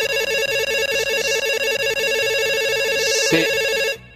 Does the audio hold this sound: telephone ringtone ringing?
yes